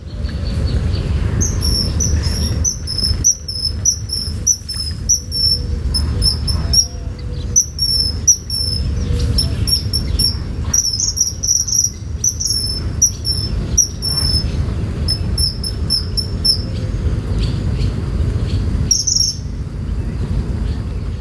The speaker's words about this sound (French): Les sons d'oiseaux que vous avez entendus lors de cet épisode ont été enregistrés par Jordi Calvé et sont hébergés sur xeno-canto.org.